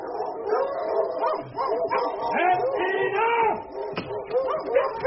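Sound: dogs barking and yipping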